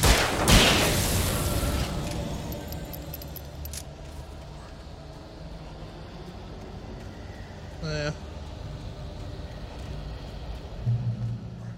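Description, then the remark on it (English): Video game gunshot effects: a loud, booming blast right at the start, then a second, sharper shot several seconds later, over a steady rumbling game soundscape. “I love the quality of those gunshot noises.”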